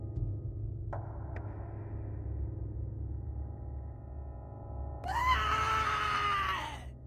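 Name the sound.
a man screaming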